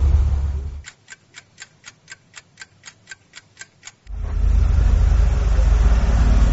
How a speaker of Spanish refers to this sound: estamos en el camino y hay muchos carros y no podemos pasar pues, entonces aquí estamos atascados de bastantes móviles.